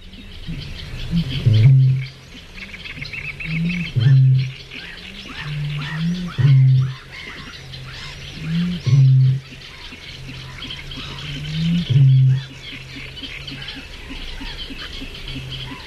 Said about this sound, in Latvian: Paklausīsimies tagad, kā tad skan jau piesauktais dumpis un kā viņu pazīt dabā.